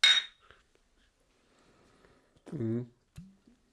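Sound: glasses clinking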